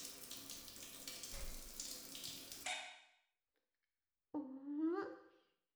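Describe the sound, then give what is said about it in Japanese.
A shower left running sprays with a steady hiss of water for a few seconds, then shuts off; after a brief silence, a short high squeak follows. “シャワー出しっぱなしを持たないよ。”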